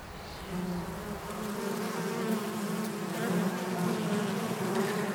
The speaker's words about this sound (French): Là, on est en train d'enregistrer des abeilles. On a mis des micros devant l'entrée de la ruche, là. Elles sont en train de se poser des questions pour savoir si c'est pas un ennemi qui est en train d'arriver. Elles font des va-et-vient autour.